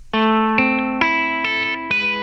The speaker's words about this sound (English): So you're going to hear guitar solo start, and then he's going to begin using the fart pedal and working the farts in.